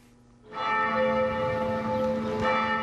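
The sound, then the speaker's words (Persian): The bells of an old church in Rouen, northern France, ring out loudly after a brief quiet start. Their rich overlapping tones sustain and blend into a dense, resonant peal, with no voices present. “هنگامی که زنگ کلیسای معبد قدیمی روین به صدا در می‌آید، امروز به عوض عبادت کنندگان بیشتر سیاهان در آن حضور یافتند.”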